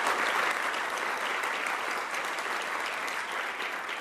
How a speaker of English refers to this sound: I'd like to welcome our audience to the courtroom today. Give yourselves a round of applause, ladies and gentlemen.